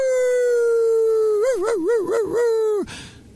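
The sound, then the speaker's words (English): A woman's voice imitates a wolf howl: one long sustained tone that wavers into several rapid undulations before dropping off abruptly, loud. “there's a woman who says that God told to howl like a wolf.”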